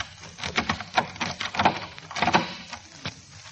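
A key, made as a sound effect with props, scrapes and rattles into a door lock, followed by a series of metallic clicks and clunks as the mechanism turns and unlocks the door, with no voices present.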